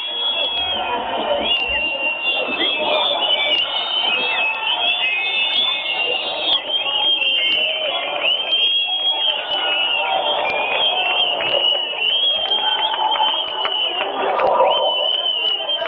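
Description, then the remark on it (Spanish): A large street demonstration crowd outside chants and shouts in a steady, unbroken roar of many voices, with shrill whistle-like tones cutting through. It is heard live through a telephone, so the sound is thin and muffled. “A través del teléfono, que escuchéis el sonido en directo de la manifestación.”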